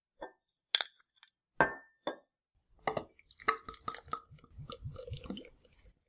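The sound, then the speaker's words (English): A few sharp glassy clinks and a cap being worked off a beer bottle, followed by a few seconds of glugging, bubbly pouring of the beer into a glass, with no voices. “All right, so let's open some up. We will. We'll split this bottle.”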